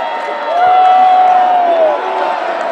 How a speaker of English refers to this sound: It's great to have that kind of electricity. And then they go in. There's D.C. for you, going right into the Sergio Garcia cheer.